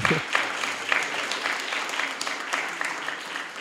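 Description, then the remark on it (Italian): Steady audience applause at the close of this year's Wake Up event, a dense crackle of many hands clapping at an even level throughout, with no voices standing out above it. “Un applauso.”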